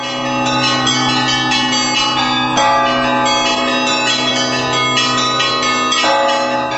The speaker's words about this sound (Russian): колокольные звоны различных традиций и школ